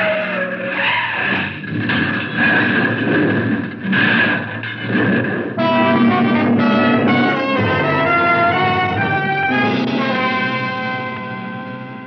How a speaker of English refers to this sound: He was getting away when he hit that bad curve doing 70. Then there was nothing on earth that could save him as his car skidded over the steep embankment.